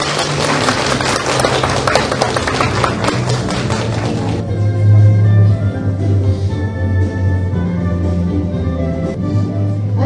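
A crowd claps in a dense burst of applause for about four seconds, then the clapping gives way to steady sustained tones over a low hum.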